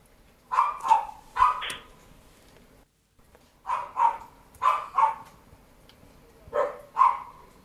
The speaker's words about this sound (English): This is the dog started barking in this woman's garden outside her house.